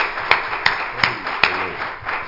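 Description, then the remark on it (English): A church audience claps in praise together in a steady rhythm, sharp hand claps landing about every 0.4 seconds over a busy murmur, with no clear speech. “If you love the latter rain, give the Lord a hand clap of praise tonight.”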